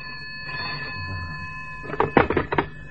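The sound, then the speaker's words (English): A telephone rings with a sustained, steady tone, then a quick burst of louder, rapid rings near the end, with no talking. “The phone”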